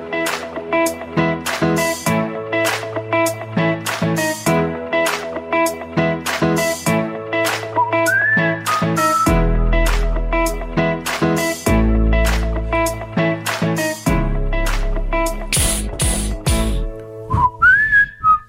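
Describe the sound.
A bright whistled melody carries a catchy tune over a steady instrumental backing with punchy bass and rhythmic percussion. It is loud, with no talking, and plays on the Scalzo and Brust radio show on 94.5 ESPN Wisconsin.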